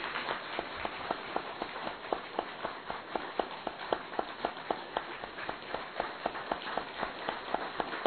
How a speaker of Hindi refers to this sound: थोड़ी तालियां बजाएंगे जरा।